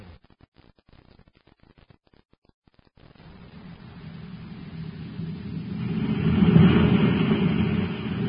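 A rocket ship blasting off: after a few seconds of faint crackling, a deep roaring rumble swells in and builds steadily louder, peaking near the end without any voices.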